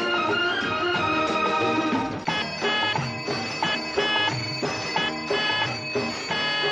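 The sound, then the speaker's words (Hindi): Bicycle bells ring over a dense wash of honking vehicle horns, loud and continuous, the tones overlapping and settling into repeated pulsing bursts after the first couple of seconds. “Cycle की घंटी और गाड़ी के हॉर्न की ये मिली जुली आवाज सुनकर आपके दिल में पहली बात क्या आई?”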